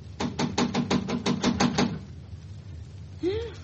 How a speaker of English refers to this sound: Oh, better knock again